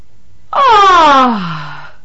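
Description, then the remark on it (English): A single loud yawn, made as a voice exercise, with a strong voiced tone that slides steadily downward in pitch over about a second and a half, then trails off breathily. No other sounds. “You just heard an excellent yawn sound.”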